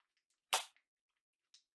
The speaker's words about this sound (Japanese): チンポにビンタくらい我慢しろ。